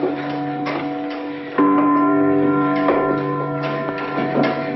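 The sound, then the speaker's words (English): A tower clock bell, with life-size wooden figures with swords circling the clock, strikes loudly partway through, its deep, humming tones ringing on and layering over softer, lingering chimes, with a few fainter knocks in the background and no voices. “Life-size wooden figures with swords circle the clock in the tower.”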